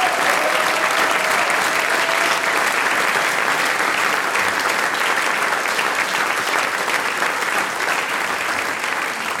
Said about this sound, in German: Euer Applaus. Dankeschön.